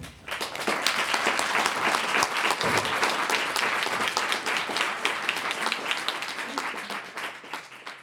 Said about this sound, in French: Une incertitude partagée, comme le montrent les applaudissements suite à cette intervention imprévue.